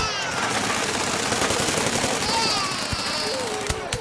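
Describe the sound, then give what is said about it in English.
Loud, chaotic explosions and rapid crackling blasts fill the whole stretch, a dense continuous roar of detonations with a few sharper bangs near the end. “Explosion?”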